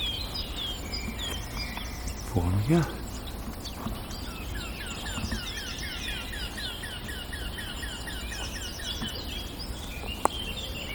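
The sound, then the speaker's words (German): A blackcap's bright song mixes with a warbler's harsh, repeated alarm calls, a steady series of sharp notes over outdoor background noise, with a brief low voice early on. “Hellen Töne der Mönchskassmücke. Die harten Warnrufe der Grasmücke.”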